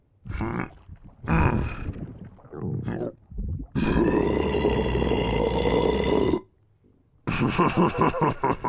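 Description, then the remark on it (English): A series of loud burps: a few short croaky ones, then a long drawn-out belch lasting several seconds, a brief pause, and another rumbling burp. No talking. “So when I burp, my belly grows. Well then, let's get some more burps out.”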